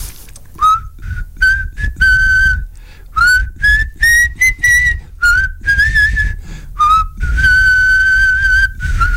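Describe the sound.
Someone whistles a slow, wistful rock-ballad melody in several long sustained phrases separated by short breaths, clear and fairly loud with no talking.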